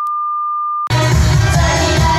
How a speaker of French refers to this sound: Bonjour, vous êtes bien sur le répondeur du... Opération Bikini! Vous pourrez enregistrer votre message juste après le bip sonore.